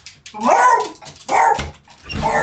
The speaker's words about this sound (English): Those are my dogs. I have to take them outside.